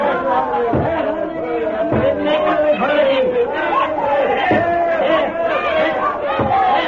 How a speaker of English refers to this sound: Outside a handsome house where soldiers of the Revolution are battering down a door, you'll see a mob of maddened men and women.